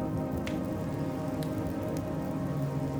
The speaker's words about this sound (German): Der Sturm fegt noch immer über das Wasser. Das Lied des aufbrausenden Windes spielt noch immer.